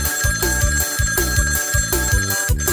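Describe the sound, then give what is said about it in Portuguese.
A telephone rings in a loud, steady repeating pattern, its bright electronic trill cycling about twice a second over a thumping low beat, with no voices. “Marco Silva, o telefone está tocando. Atende aí”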